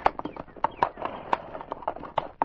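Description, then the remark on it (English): Horse hooves clop in a steady but uneven rhythm, sharp knocking beats repeating over a low rumble as Constable Redman's horse climbs a hill, with no voice on top. “As Constable Redman reached the top of the hill, he halted his horse and drew his service revolver.”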